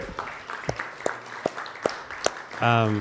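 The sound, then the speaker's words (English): Thin, scattered applause for open mic participants at a bar: a handful of sharp claps at a steady, unhurried pace over a low murmur, followed by a brief voiced sound at the end. “Another round of applause for the open mic participants.”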